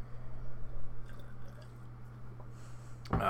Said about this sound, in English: Now I grab me a quick little sip of water